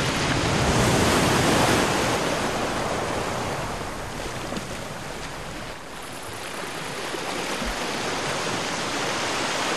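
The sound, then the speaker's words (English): Ocean surf washes steadily onto the sandy shore of an island under a high sun in a blue sky, a loud rushing swell early on that eases, dips briefly, then builds again. No voices, just the continuous hiss and roar of breaking waves. “The sun is high in a blue sky, and beneath it is an aquamarine coloured sea.”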